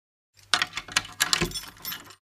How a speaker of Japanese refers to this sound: 部屋には鍵がかかっているようだった。しかし、合鍵なら持ってきている。